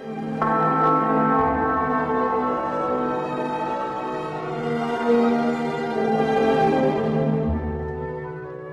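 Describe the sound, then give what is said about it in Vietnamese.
A church clock bell slowly strikes once: a single deep strike rings out clearly, its rich, layered tone lingering and humming for several seconds with no other sounds or voices. “Tiếng chuông đồng hồ nhà thờ thong thả buông 1 tiếng.”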